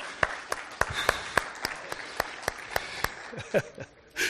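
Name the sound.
audience round of applause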